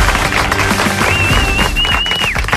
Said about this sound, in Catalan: I avui convidem, ja s'estrena, el grandíssim Mr. Lluís Cortés. Un fort aplaudiment.